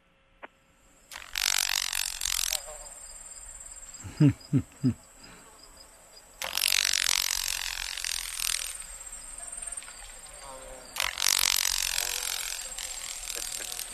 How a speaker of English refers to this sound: The following examples of crepitation are from a Carolina grasshopper.